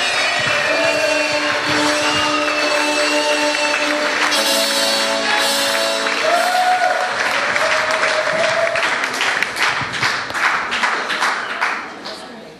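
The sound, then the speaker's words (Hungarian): An audience applauds steadily for about twelve seconds for the first-place girls in the mini age group duo/trio one-baton category at a competition. It is a dense wash of clapping with music playing underneath; toward the end the claps fall into a more rhythmic beat before fading out. “Gratulálunk és nagy tapsot kérünk nekik, ügyesek voltatok lányok!”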